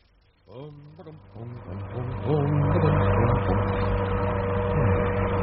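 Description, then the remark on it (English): An old car's engine runs while driving on empty roads toward London, starting with a few wavering rising tones as it picks up, then settling into a loud, steady low drone with a constant humming pitch. “The old bus is running well.”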